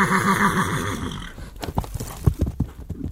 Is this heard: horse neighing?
yes